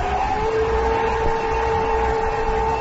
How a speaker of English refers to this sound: Yeah, I'll just put in a little bit of everything. Why don't we just run this through the blender, froth it up a little bit, huh?